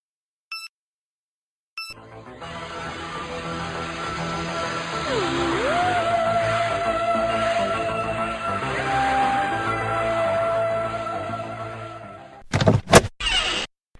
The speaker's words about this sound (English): I think I'll unfold this chair and lie down for a bit.